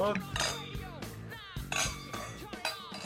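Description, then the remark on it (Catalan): Several bright, ringing clinks of wine glasses touching in a toast, spread irregularly over a few seconds, with faint background murmur and shuffling between them. “costejar la hidratació enològica que els nostres cossos demanen un dilluns qualsevol com avui. Salut. Salut.”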